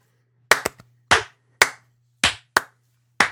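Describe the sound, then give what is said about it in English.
A slow clap: about seven sharp, crisp hand claps, a quick couple at first, then unevenly spaced and deliberate, each decaying quickly over a faint steady low hum, with no talking. “Exactly. Slow clap.”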